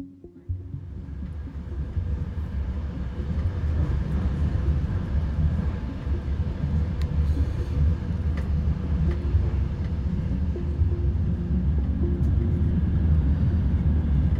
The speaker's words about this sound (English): So here we are on the train from Lviv to Kyiv.